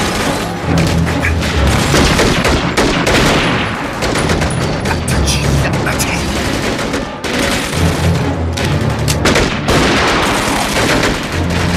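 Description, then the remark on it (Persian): Dense, sustained gunfire: rapid overlapping shots and bursts crackle loudly and continuously, with heavy booming impacts underneath, like a battle with many weapons firing at once, as covering fire is laid down so someone can cross to the other side. “بهشون شلیک کنیم تا ما برم اون طرف.”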